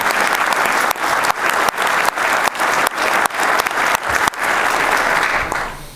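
An audience applauds a dean, the owner of the venue, as he is introduced at the opening of a course. They clap steadily for several seconds, a dense, bright wash of many hands with a few brief dips before it tapers off at the end. No one speaks.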